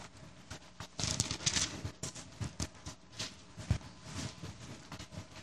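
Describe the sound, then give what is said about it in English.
Many thin Bible pages rustle and flip at once as people look up Amos 5:14, a steady patter of soft, crisp paper swishes overlapping in irregular bursts, with no one speaking. “I hear, still hear pages turning.”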